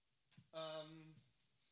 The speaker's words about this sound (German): Ich muss vor allem mal nach rechts klicken.